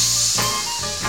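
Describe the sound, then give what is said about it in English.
Children's voices produce a steady, sustained hissing "sss" sound of the letter S, like a snake, bright and airy. It holds for about a second with slight swells, fairly loud, with no words spoken. “Yeah, you hear that sound at the beginning of a word like seesaw, silly, or superstar, seven.”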